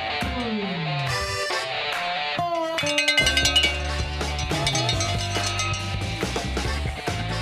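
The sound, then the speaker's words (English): A metallic bell clangs over and over like a cowbell, its bright ringing tones overlapping in a dense, steady clatter with a burst of quick strikes midway. “That should bring the cows back, too.”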